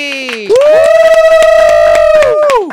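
A loud burst of audience cheering lasting a couple of seconds, with a strong sustained whooping tone over a rapid patter of claps, rising at the start and fading out.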